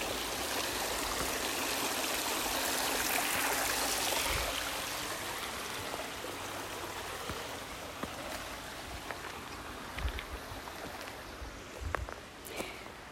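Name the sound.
creek water flowing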